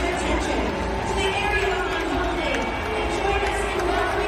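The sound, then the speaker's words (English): A large crowd at a Seattle Mariners baseball game in Seattle roars in a steady, sustained wash of booing and jeering at the ceremonial first pitch, loud and continuous throughout, with no single voice standing out from the mass of sound. “threw out the first pitch at a Seattle Mariners baseball game, and the crowd was less than enthusiastic, even in Seattle.”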